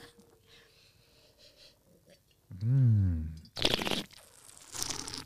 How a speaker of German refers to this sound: Dieses Schlürfen macht man ja, um ein bisschen mehr Sauerstoff in den Mund zu kriegen, damit der Wein einfach seine Aromen auch im Mund noch etwas mehr öffnet.